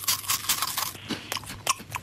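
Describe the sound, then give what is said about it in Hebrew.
Crunchy chewing of food, the first of four chews in a guessing game, a quick run of crisp bites and mastication noises repeating for about two seconds, with no talking. “לעיסה מספר אחת, שים לב.”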